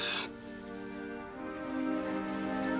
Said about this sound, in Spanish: Llovía y llovía como si nunca fuera a parar.